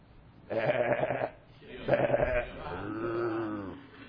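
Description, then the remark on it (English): Sheep bleat three times in quick succession, fairly loud, with a wavering, quavering tone. The last cry is longer and lower than the first two, and there is no talking. “what's the bleating of the sheep that I hear?”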